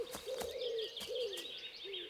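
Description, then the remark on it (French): An owl hoots three times in steady, drawn-out calls in a forest while sharp cracks of snapping branches break in between, over a faint, hissing woodland background. “Avez-vous entendu le hibou et les branches qui craquent ?”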